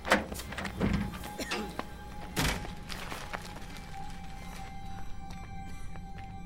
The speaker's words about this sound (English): Wait, what? Right after I close the door.